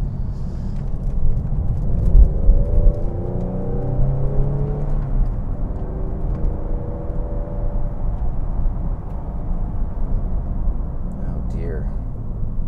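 A car engine climbs in pitch as it accelerates to get in front of a small truck, heard from inside the vehicle over a steady, loud low road rumble that continues throughout.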